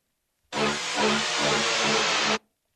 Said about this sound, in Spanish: No seas payaso, ese es tráfico de la Ciudad de México.